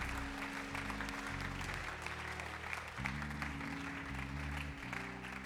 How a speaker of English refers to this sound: I wonder, can you clap your hands if you're thankful today? Yo me imagino si puedes aplaudir tus manos.